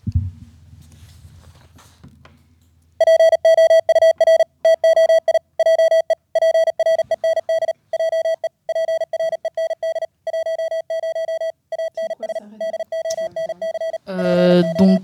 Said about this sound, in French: Ce que vous êtes en train d'écouter à l'instant, c'est un message en morse que j'ai fait moi-même avec un site sur internet. J'ai pris quelques paroles d'une chanson que j'aimais bien et que j'ai retransmis en morse.